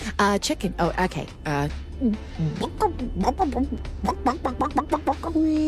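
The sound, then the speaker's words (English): A human voice imitates a chicken, producing a rapid run of clucks and squawky bawks in an uneven rhythm, fairly loud, ending on a held, drawn-out note. “Mama, what does the chicken say?”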